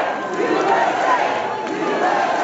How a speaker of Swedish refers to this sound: hans fru Melania möttes av både burop och applåder när de gjorde entré i salongen på Kennedy Center. Flera i publiken visslade och gjorde tummen ner mot presidentparet, men buropen överröstades sen av jubel när Trump höjde en knuten näve i luften.